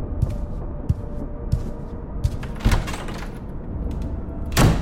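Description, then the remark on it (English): A bedroom door swings shut, with a few soft knocks and creaks leading up to a firmer closing thud at the very end, with no one speaking. “Moffat slowly sauntered off to his room, disappearing behind his bedroom door”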